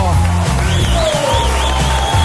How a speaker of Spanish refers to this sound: Estamos haciendo hoy las Mañanas Kiss desde Vigo. Y quiero que le deis un fuerte aplauso a Abel Caballero.